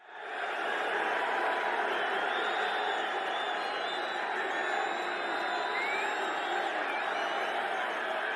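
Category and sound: crowd, crowd cheering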